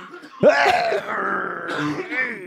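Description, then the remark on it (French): A single loud cough bursts out into a microphone as a test, trailing into a drawn-out, raspy throaty rumble for about two seconds, with no other sounds around it. “Vas-y, tousse.”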